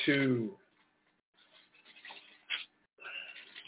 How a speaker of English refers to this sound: I'm turning pages, not using computer today. You can hear it. Old school.